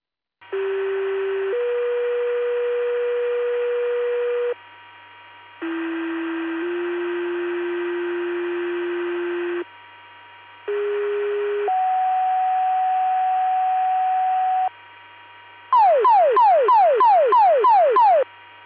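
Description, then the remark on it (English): Fire department pager test tones for Oglesby Fire and EMS, Utica, and Tanaka Fire Departments: three loud two-tone pairs, each a short steady pitch stepping into a longer held one, then a burst of rapidly repeating falling warble sweeps. No talking. “This is your full stall pager test, testing for Oglesby Fire and EMS, Utica, and Tanaka Fire Departments. Please disregard the tones, reset your pagers, end of test, back on clear at 1959.”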